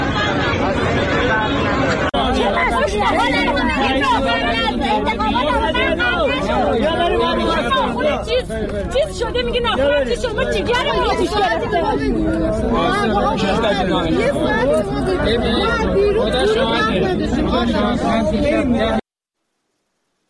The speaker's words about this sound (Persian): صدای مردم و اعتراض اونها رو شنیدیم.